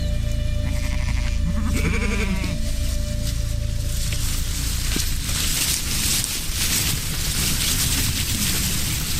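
A frightened sheep on a pasture lets out a wavering, anxious-sounding bleat near the start, then the scene settles into a steady outdoor rumble with faint rustling and no voices.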